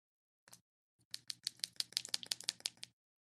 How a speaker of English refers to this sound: Hold on, can we make like a pouring noise? Let's see. Hold on. Oh no, it's not pouring very loudly. I'll squish my iced tea. Can you guys hear this?